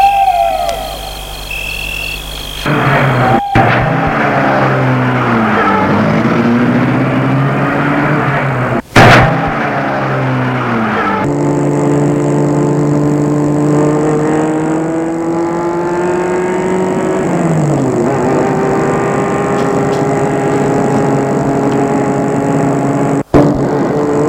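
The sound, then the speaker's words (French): A car engine cranks and starts, then revs and drives off, its pitch rising and falling through gear changes, with a couple of sharp clunks along the way. Loud, no talking. “Et Gilbert la met en route.”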